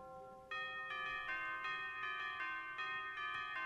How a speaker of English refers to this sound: And there's that bell.